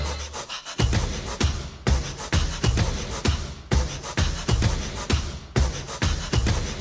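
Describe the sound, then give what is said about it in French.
Breathy, panting exhalations pulse steadily in time with a song's beat, loud and rhythmic, forming sharp repeated bursts across the whole stretch with no talking. “qui a cette fameuse respiration qui suit le rythme de la musique, hein. La respiration en question.”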